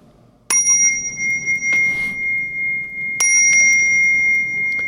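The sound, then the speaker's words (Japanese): A bell rings twice, about three seconds apart, each strike a bright, high-pitched tone that lingers and hums on. The ringing is clear, with no one talking. “大晦日鐘が鳴るなり西方寺、そんなお正の独り言。”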